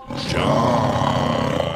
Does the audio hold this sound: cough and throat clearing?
no